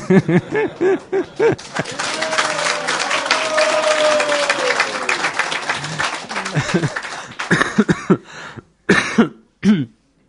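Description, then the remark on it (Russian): A thin patter of scattered clapping from an audience swells for a few seconds, mixed with murmuring voices and a cough, then fades into brief bursts of talk. “Жидкие аплодисменты.”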